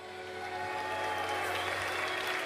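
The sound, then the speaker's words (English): An audience claps steadily for a few seconds, a dense, even patter of many hands at a constant loudness over a low droning hum, with no voices. “You're too fucking young, what are you clapping at?”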